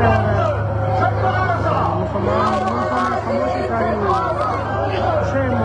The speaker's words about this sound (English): Appreciate if you're in a car or on a bike or whatever it might be, that you are hearing the globalise the intifada chant from a recent London protest.